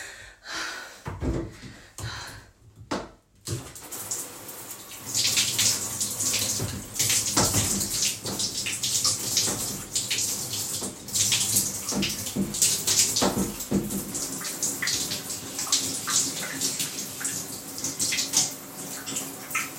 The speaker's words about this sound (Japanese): あのお風呂場がおしっこまみれになっちゃったので、ちょっと床をシャワーで流したのと、私もちょっと手とちょっと馬おこだけ綺麗にさせてもらいました。